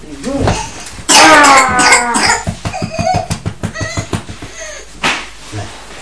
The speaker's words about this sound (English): Supposed to do when you're not right, you're supposed to cough.